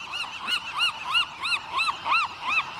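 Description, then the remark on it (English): A Western gull calls over and over, about eight loud, nasal, mid-high cries in a steady, quick rhythm, each rising and then falling. No voices are heard. “But one Western gull's devotion to trash reached a new level with an epic road trip.”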